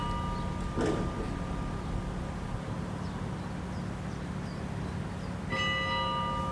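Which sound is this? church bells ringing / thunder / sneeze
church bells ringing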